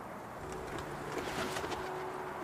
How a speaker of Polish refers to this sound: Jesteśmy przy gołębniku. Wyleciały z niego przed chwilą gołębie, ale słychać takie gruchanie, więc chyba kilka sztuk zostało w środku.